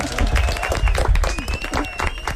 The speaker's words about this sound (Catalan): Vinga, fort aplaudiment.